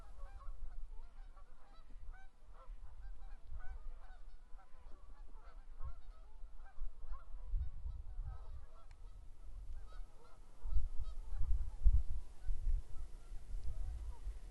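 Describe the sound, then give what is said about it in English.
A flock of geese honks continuously, many overlapping calls, with a low rumbling wind or water noise underneath that swells toward the end. “What if there be no more goose music?”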